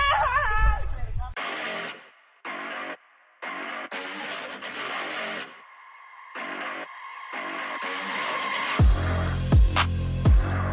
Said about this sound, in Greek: Το κορίτσι βάζει τα κλάματα.